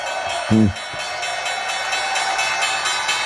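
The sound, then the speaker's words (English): The New York Stock Exchange opening bell rings in one continuous, steady metallic peal, with a brief low tone near the start and a noisy crowd murmuring underneath. “And there's the bell.”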